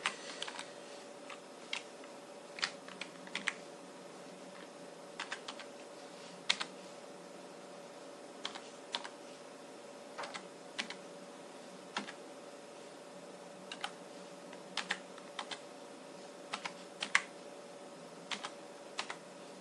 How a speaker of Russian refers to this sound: Еще и клавиатурка присутствовала.